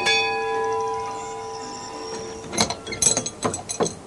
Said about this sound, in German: Ellie fasste sich als Erste und läutete die Glocke, die über dem Tor hing.